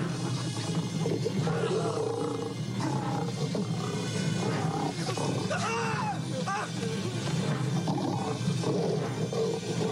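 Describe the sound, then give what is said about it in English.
A lion in a film roars and snarls continuously while fighting a man who kicks it in the face, loud, with deep growls rising into harsher roars for the full ten seconds. “He's really kicking that lion in the face.”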